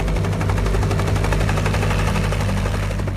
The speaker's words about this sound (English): He says, we're shooting from the helicopter.